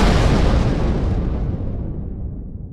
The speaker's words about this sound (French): L'explosion, qui n'a fait aucun blessé, provoque un incendie qui contraint à l'évacuation de tous les passagers.